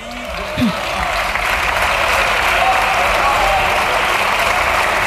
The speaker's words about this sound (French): Applaudir.